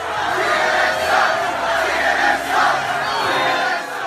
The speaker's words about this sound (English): You've probably seen at least one of the tapes posted of an enraged crowd of Trump supporters, men, women, and their children at a Trump rally in Tampa, jeering at CNN's Jim Acosta, giving him the finger and screaming, CNN sucks!